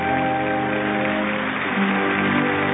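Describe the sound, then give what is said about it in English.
A crowd cheers and chatters in a steady, dense roar that stays loud throughout, with a faint hum running underneath and no single voice standing out. “Pictures of veterans, of course, and the audience cheering and talking.”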